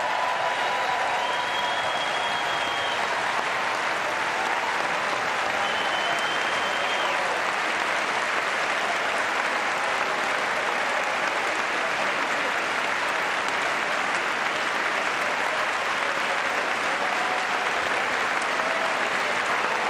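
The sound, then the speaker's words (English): Sustained, dense applause from a large audience in the chamber of Congress after the president's remark that more women than ever serve in Congress, a steady wash of clapping that continues at an even level for the whole stretch without easing off. “So that was a long, long applause.”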